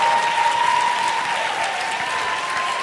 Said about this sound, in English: You know, at this time, let's have all the moms in the audience stand if you could. We want to honor you. And before we really applaud, let's honor, let's lift them up.